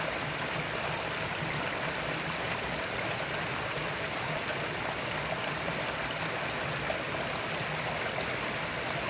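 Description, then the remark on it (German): A babbling stream splashes and burbles steadily throughout, a continuous wash of running water with no voices or other sounds. “Es plätschert.”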